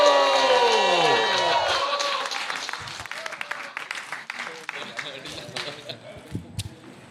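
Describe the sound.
An audience breaks into steady applause, dense and crackling, with a few voices cheering at the start, as a veteran performer is introduced; the clapping gradually thins and softens over several seconds.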